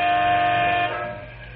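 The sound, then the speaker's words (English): A transport truck's air horn, on one of three Canyon City Truck Company trucks waiting at a freight train that blocks the North Highway, blares in one long, loud, steady honk for nearly a second, then cuts off, leaving a low rumbling drone underneath that fades slightly. “Big Jim Mandel leans on his air horn as he grows impatient.”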